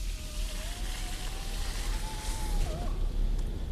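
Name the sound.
rain falling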